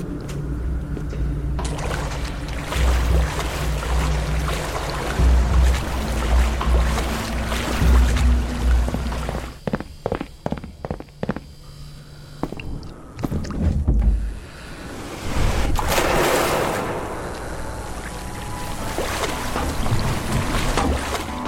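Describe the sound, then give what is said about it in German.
Water in a video game's pool setting sloshes and laps steadily against a hard edge over a constant low ventilation hum, with a burst of rhythmic knocking in the middle and a rushing swell toward the end. “Gletschere vom Wasser, Brumme von der Belüftung, Schritte in Hallen, all das ist darauf ausgelöst, eine dreckende, verstörende Atmosphäre zu schaffen.”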